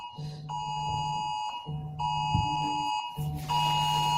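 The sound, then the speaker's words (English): A home alarm system beeps in repeated steady electronic tones, roughly three pulses with brief gaps, loud with no one speaking. “I have an alarm system coming in.”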